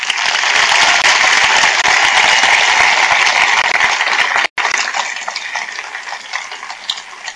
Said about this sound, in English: But I say that it's been a true honor to work with these people, and I think we should all give them an applause.